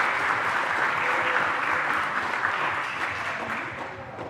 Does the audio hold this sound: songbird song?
no